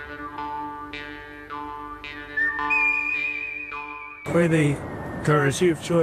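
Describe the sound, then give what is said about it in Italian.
Dial-up modem connection tones: layered electronic beeps and a steady high whistle that give way to loud, harsh bursts of hissing, crackling static in a rapid handshake sequence. “Modem.”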